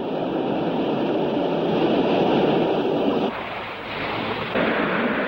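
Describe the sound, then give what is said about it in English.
Waves break against a rocky shoreline in a continuous, loud rushing roar that shifts and dips briefly partway through before surging again. No voices are heard. “Later, waves break over a rocky shoreline.”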